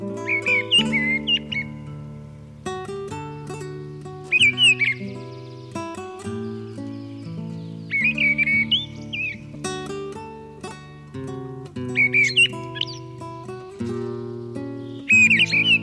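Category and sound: bird, mistle thrush song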